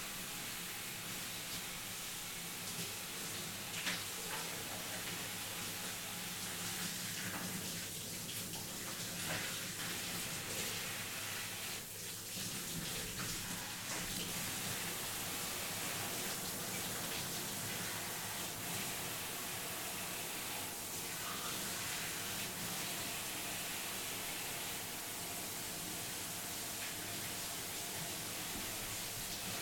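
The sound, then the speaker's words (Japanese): Warm water runs steadily for the whole stretch, a continuous hissing wash with no breaks or speech, like a tap or shower pouring. “あったかいお湯って落ち着くから。”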